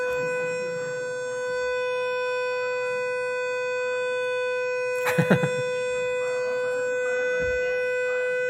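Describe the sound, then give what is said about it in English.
A building fire alarm sounds continuously, a steady, shrill electronic tone rich in harmonics that holds unchanged throughout, with a brief clattering burst of noise partway through. “Fire alarm is different.”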